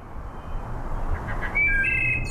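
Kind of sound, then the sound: bird, wood thrush song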